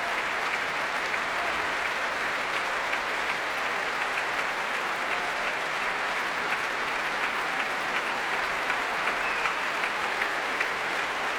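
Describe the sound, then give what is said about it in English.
Steady, sustained applause from a large concert audience at the Proms for the orchestra's leader, Michael Dowd, as Ashkenazi brings the section principals and brass to their feet. It is a dense wash of clapping that holds an even level for the whole stretch with no pauses and no voices. “And applause for the leader, Michael Dowd.”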